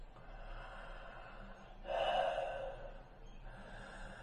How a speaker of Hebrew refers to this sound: ופשוט נפעיל את הנשימה, ונגיד אוקיי, אז נקבל ונחבק את המחשבות וננשום פנימה והחוצה.